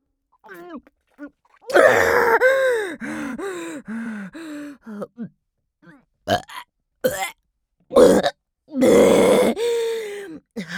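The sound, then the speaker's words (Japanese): A close, loud burp amid a series of gasps, groans and grunting vocal noises, coming in uneven bursts separated by short silences. No clear speech. “ゲップまで出ちゃったじゃない。”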